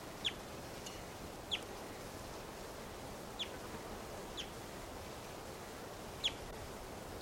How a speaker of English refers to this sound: Wild bird. Okay, that's the wild yellow male, whose female is hanging in the net.